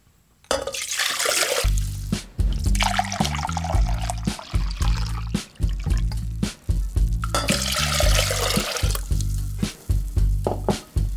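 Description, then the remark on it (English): One cup of water pours steadily into a measuring container for several seconds, for a vinegar and spice mixture, a continuous splashing trickle with a low musical backing underneath and no talking. “It's 1 cup of water.”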